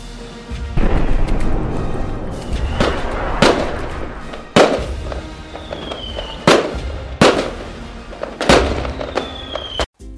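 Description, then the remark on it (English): Fireworks burst at a weekly Wednesday evening event in Eastbourne, in a loud, irregular series of booms, some with crackling tails and a faint rising whistle between blasts, echoing over a constant low rumble. “With fireworks, it would be more like this.”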